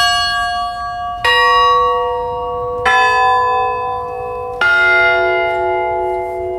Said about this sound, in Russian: И третий, завершающий группу благовестников, постный колокол. Вот, им звонят особенно в Великий пост практически ежедневно. Вот эти все три колокола благовестной группы, они управляются у нас ногами. Следующая группа – подзвонные, средняя группа.